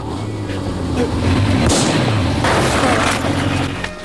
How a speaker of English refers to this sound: is forced to duck behind a wall to avoid being hit by gunfire.